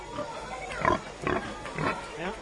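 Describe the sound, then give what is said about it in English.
A saddleback pig, resting in the heat, grunts in a short series of low, rough snorts, roughly three or four bursts spaced unevenly over a couple of seconds, with faint background noise and no clear talking. “is this a saddleback, or is that? Yes, a saddleback, yes.”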